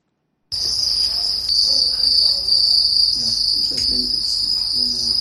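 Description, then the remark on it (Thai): A dense chorus of many crickets at a cricket farm in Kisumu, Kenya, trills continuously at a high pitch, loud, starting after a brief silence, with faint low rustling and knocks underneath. “เกษตรกรในเมืองนี้เป็นคนบุกเบิกการทำฟาร์มจิ้งหรีดค่ะมีจุดเด่นคือเสียงร้องที่เป็นเอกลักษณ์”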